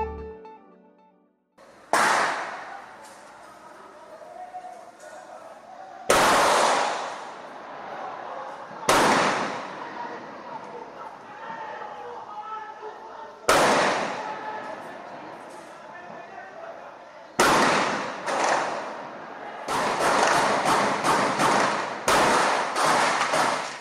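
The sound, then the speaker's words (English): Gunshots crack out one at a time in Rocinha, the largest favela in Rio de Janeiro, Brazil, each rolling into a long echo, then a faster burst of shots near the end, loud and reverberating across open, built-up surroundings. “Gunfire echoes across Rocinha, the largest favela in Rio de Janeiro.”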